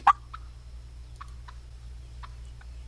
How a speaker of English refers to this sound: That's a gobbler clucking in the background.